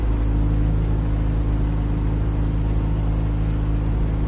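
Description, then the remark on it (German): An air-cooled car engine drones loudly and steadily, its low, buzzing hum laboring under strain as it climbs a steep road up into the Carpathians, with no voices over it. “Kaum noch kann uns mit luftgekühltem Motor natürlich nicht passieren.”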